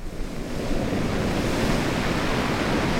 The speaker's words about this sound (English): When the wind picks up at Roy Carpenter's beach, it pushes waves against the quarter-mile stretch of sand.